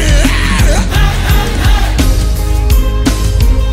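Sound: audience yelling loudly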